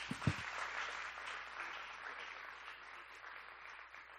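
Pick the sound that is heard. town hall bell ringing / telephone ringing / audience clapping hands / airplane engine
audience clapping hands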